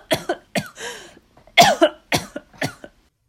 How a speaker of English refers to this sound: She immediately started coughing again.